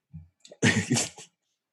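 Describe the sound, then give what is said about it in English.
A single loud sneeze: a short breathy intake, then an explosive burst with a brief trailing second push, heard alone without talking. “Bless you.”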